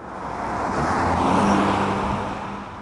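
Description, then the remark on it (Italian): A black car drives along the road toward Vinnytsia in central Ukraine with a steady rushing engine and tire noise that swells to a peak midway and then eases off slightly. Nobody speaks. “Io salgo con Nadia su un'auto nera che ci accompagna fino a Vinnytsia”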